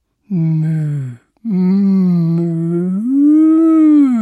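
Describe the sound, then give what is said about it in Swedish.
A cow moos twice, loudly: a short low moo followed by a long drawn-out one that rises slightly in pitch toward the end, with nothing else in the background. “Då kom det en ko.”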